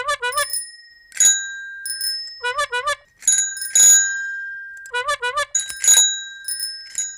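A bicycle bell rings repeatedly in quick trills, bright metallic dings with sustained ringing tones, repeated in about three rounds with short gaps between. No talking.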